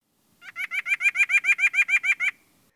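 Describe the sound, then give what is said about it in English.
A nuthatch gives a rapid, even series of about a dozen nasal 'yank' notes, clear, with no other sounds around them. “The nuthatch's nasal yank yank sounds like.”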